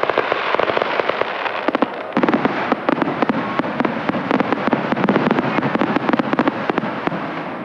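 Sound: fireworks bursting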